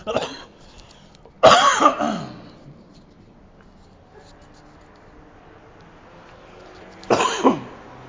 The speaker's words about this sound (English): Uh-oh, more coughing.